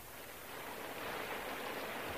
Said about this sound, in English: Not that you can see much with this rain falling.